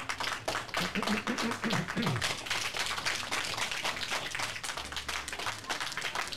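A crowd applauds steadily for several seconds, many hands clapping in a dense, even patter, with a brief vocal cheer rising over it near the start.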